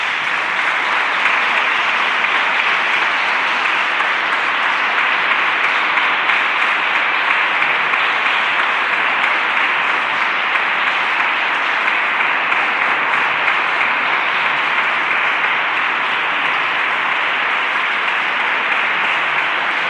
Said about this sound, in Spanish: Un aplauso para los dos.